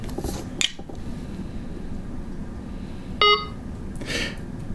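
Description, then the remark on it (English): A single short, bright electronic beep from the DigitEyes barcode scanner app on a phone, confirming a read of the barcode on a can of soda held near the phone's camera, sounding clearly over a low background hum, with brief rustling and handling noises before and after. “Barcode read.”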